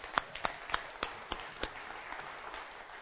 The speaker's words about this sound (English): And so with a round of applause, come on, let's welcome our guests.